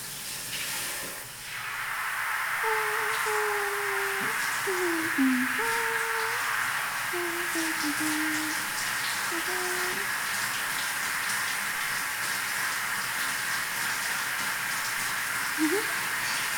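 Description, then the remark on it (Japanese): A shower sprays water onto a person's head as their hair is about to be washed: a steady, loud hissing rush that starts after a brief quiet moment and runs without a break, with faint wavering low tones drifting underneath early on. “頭にシャワーをかけますので、目をつぶっていてくださいね。”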